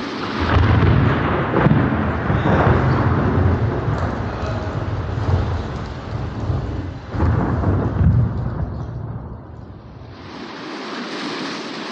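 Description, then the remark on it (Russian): A thunderstorm breaks over an open field, with heavy rolling thunder booming in two big waves over a constant roar of wind and rain, fading to a softer hiss at the end. “Шел он однажды через незнакомое поле, и вдруг разразилась гроза.”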